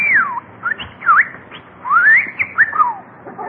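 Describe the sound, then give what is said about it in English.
A talking bird named Bertie whistles a quick run of bright, sliding notes that swoop up and down in pitch, in short bursts with brief gaps, fairly loud over a faint background hiss. “Say, you're a smart bird.”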